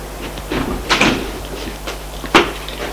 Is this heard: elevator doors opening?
yes